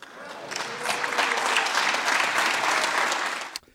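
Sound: applause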